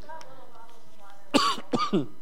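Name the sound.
coughing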